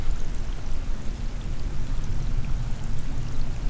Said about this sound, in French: Et puis là, on entend plein de petits bruits. En fait, on est sur la vase et on a les petits sons des petits crabes, je pense, qui font des petites bulles.